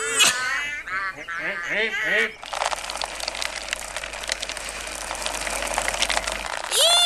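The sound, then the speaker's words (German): After a couple of seconds of high, sing-song voices, heavy rain starts pouring down, a loud, dense, steady hiss with fine crackling patter that continues for several seconds. “Das regnet ja wie aus Tannen.”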